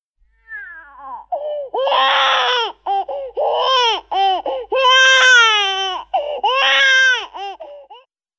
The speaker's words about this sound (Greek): Κλαίω.